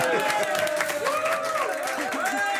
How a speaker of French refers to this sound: Applaudissements.